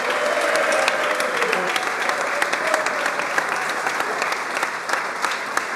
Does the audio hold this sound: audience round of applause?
yes